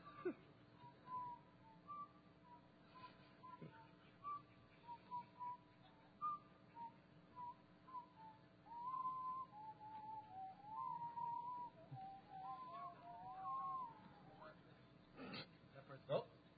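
Someone whistles a meandering melody for about fifteen seconds, the notes gliding and wavering at moderate loudness over a faint room hum, with brief soft noises in the background.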